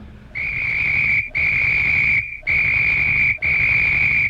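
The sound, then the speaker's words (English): A man blows a whistle in four loud, long blasts, each lasting about a second, separated by short breaks. The shrill tone holds steady throughout, with no voices. “I think that man who just came in is blowing his whistle at us, Doctor.”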